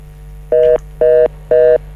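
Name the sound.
telephone line tones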